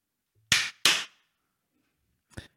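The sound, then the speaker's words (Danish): Two sharp, loud hand claps, made to sync a camera recording after a spoken countdown, land in quick succession, followed after a short silence by a third, fainter clap. No one speaks. “Jeg kigger på det her kamera, så siger jeg 1, 2, og så siger du 3 og klapper.”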